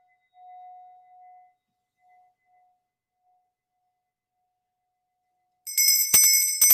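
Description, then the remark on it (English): A soft, steady ringing tone hums and fades away, followed by quiet, then a bright, shimmering bell rings loudly for a cleansing ceremony, its high tones jangling repeatedly until the end. “bells and rattles and drums and flutes and many musical instruments can be part of home blessing rituals”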